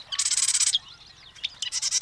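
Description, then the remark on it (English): A marsh wren sings two rapid, buzzy rattling bursts of high, rhythmic notes separated by a brief pause, clear with no other sounds. “Ready for a review? The marsh wren.”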